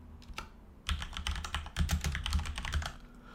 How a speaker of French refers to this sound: Pour installer IIS, commencez par appuyer sur la touche Windows de votre ordinateur et tapez au clavier « Fonctionnalités Windows ».